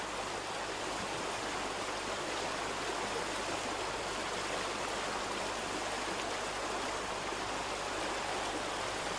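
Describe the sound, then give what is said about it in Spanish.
River water of the Miño rushes steadily past the restored watermill of Tamuxe, a continuous, dense hiss and gurgle that stays even throughout, fairly loud, with no voices or other sounds. “Otro hermoso molino restaurado es el de Tamuxe, sobre las aguas del mismo río.”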